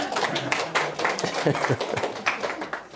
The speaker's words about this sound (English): Oh, one fan clapping. That's what that was.